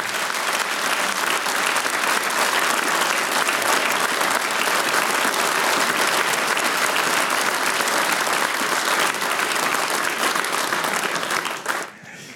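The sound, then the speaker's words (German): A large audience claps steadily and loudly for about twelve seconds, a dense unbroken wash of hands that fades quickly at the very end, with no voices standing out. “Der nächste Applaus gehört dir.”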